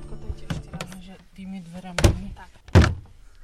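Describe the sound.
The heavy wooden door of the wooden church in Hervartov, a UNESCO site in Slovakia, creaks open with a low groan, then two solid thuds as it swings and settles, with faint voices murmuring in the background.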